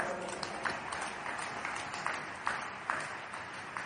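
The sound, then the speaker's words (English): A crowd claps together for the Lord in a steady, dense wash of applause, with sharper claps standing out at a roughly regular beat throughout. “Clap for my Father and the Lord.”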